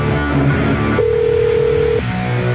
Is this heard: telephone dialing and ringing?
yes